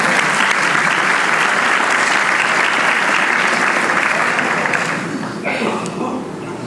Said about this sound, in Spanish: ¿Puedo dar un aplauso al Señor por eso?